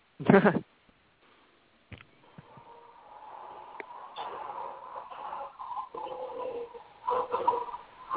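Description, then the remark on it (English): A short loud burst, then a woman attempts a roar sound effect that comes out as a thin, warbling, coo-like rumble, sustained for several seconds at moderate loudness. “I was trying to do a roar sound effect, y'all.”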